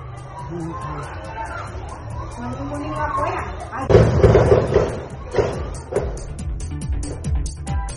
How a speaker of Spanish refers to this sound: En un video difundido en redes sociales se pueden escuchar claramente las ráfagas de disparos y los gritos de niños y personal escolar, quienes buscaron resguardarse mientras ocurría el ataque.